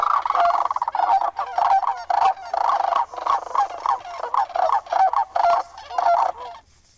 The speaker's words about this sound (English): So the sounds of sandhill cranes and other birds are filling the air as spring migration is underway.